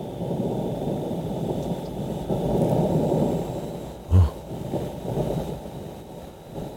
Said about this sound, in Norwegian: Altså der er lyden på Mars. Men for å høre da, hvordan høres det ut? Hva er Mars-lyden? Vanvittig livløs. Her kommer det. Bare hør.